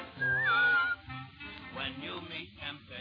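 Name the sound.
a person whistling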